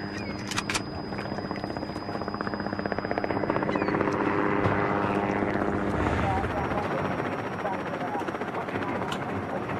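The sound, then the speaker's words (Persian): An American helicopter's rotor thumps steadily and grows louder as it draws closer, with a continuous engine whine and rhythmic blade chop filling the scene. “صدای هلیکوپتره.”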